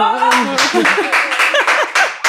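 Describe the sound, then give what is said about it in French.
A brief burst of applause from the audience at a live talk: loud, uneven claps mixed with high, gliding whoops and cheering voices, lasting about two seconds. “C'est clair! Applaudissements! Applaudissements!”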